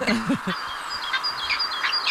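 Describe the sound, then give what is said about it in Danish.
A recording of a peregrine falcon, played from a bird-song website, calls in a series of sharp, high, repeated cries against a steady outdoor hiss, with a brief human voice at the very beginning. “Vandrefalk, heller ikke rigtigt.”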